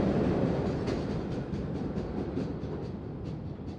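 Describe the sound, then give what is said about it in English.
One of the last late-night MBTA subway trains in Boston rumbles loudly and steadily, its wheels clacking rhythmically over the rail joints as it pulls away from the station, the roar easing slightly toward the end. No one speaks. “Living on Earth's Jamie Kaiser headed underground as one of the very last late-night subway trains left the station and has our report.”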